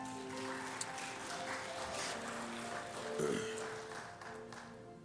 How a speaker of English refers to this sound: We just give the Lord a hand clap of praise this morning.